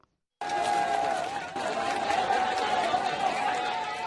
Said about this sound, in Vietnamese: Tiếng vỗ tay và reo hò vang lên giữa lúc toán cứu hộ kéo một cậu bé 15 tuổi tên Pemba Tamang ra khỏi đống đổ nát